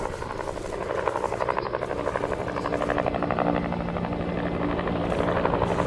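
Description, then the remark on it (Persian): Steady rotor thumping of several helicopters, two or three military helicopters, fills the air around noon, a dense pulsing drone that grows slightly louder over the few seconds as the aircraft draw nearer from a distance. No voices. “نزدیکی های ظهر یه مرتبه از دور صدای چند بالگرد به گوش رسید.”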